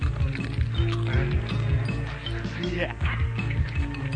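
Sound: footsteps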